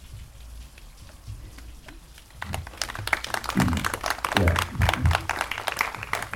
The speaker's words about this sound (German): Auch mit Applaus belohnt.